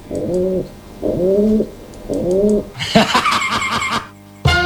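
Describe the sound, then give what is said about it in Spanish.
A pigeon named New Kim coos in three low, throaty, rising phrases, followed by a burst of busier, brighter bird chatter and wing-like fluttering before a short pause. “Claro, aquí tenemos a la paloma, New Kim.”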